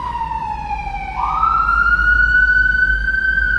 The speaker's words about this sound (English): And there's our second siren.